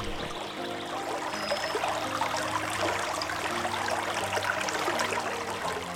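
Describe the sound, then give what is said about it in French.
Rushing water of a mountain torrent tumbles and churns steadily over rocks, a continuous full-bodied roar with no voices. “Le torrent bondit sans arrêt, tourbillonne sur les rochers.”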